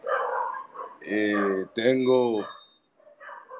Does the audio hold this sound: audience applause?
no